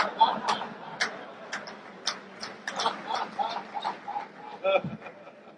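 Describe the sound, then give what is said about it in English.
A special preacher's novelty watch ticks in a series of sharp, fairly regular clicks, mixed with brief tonal chirps, against a murmur of people. “I've got a special preacher's watch.”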